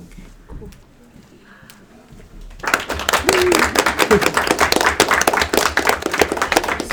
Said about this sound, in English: All right, she is confirmed. Yay. Let's give her a round of applause when she walks in too.